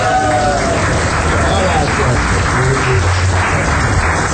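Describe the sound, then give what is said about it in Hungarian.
Steady applause from a crowd, an applause sound effect played in a show, a dense, even wash of clapping that holds at a loud level for several seconds, with a faint murmur of voices mixed underneath. “Ja, ez nagyon jó, ez a taps nekünk, rengeteg effektre van szükségünk.”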